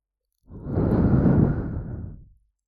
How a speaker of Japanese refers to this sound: こんな風に、先輩の大好きな、熱い吐息を流し込んで、おちんちんイライラさせてほしい。